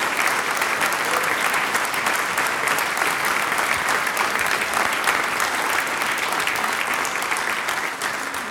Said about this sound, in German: Jetzt kriegt ihr mal einen Applaus.